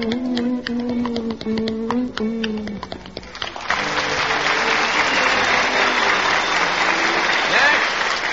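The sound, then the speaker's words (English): A few seconds of sustained tones give way to loud, dense audience applause, by which the audience votes for the night's contest winner, a steady wash of clapping that holds strong for the last several seconds. “And the audience is going to determine by their applause who tonight's winner is right now.”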